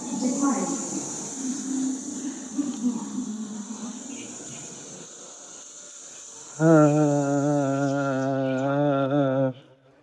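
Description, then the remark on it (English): A train waiting to depart sits idling with a steady high-pitched whine and low rumble, then a loud, sustained horn blast sounds for about three seconds before cutting off. “These trains are about to leave, so I gotta just pick one.”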